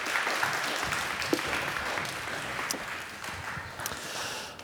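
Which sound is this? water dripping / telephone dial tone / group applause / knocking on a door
group applause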